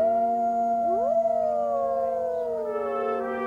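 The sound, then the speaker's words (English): A chorus of wolves howling together on a dusty, sage-speckled prairie, several long sustained voices overlapping, one sliding upward in pitch before all hold steady, steady and fairly loud with no talking. “Into this land, speckled with sage and air swirling with dust, tired oxen lumbered, wagon wheels creaked, brave men and women toiled, and occasionally wolves howled.”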